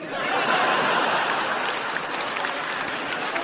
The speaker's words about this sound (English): Weird. Weird applause.